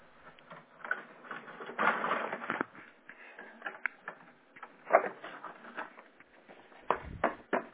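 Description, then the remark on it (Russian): A printer runs through pages, a steady mechanical whirring and rattling with sharper clicks and clunks near the end, heard faintly over a narrow, phone-like line with no one speaking. “Сейчас он у вас вроде бы начал печатать.”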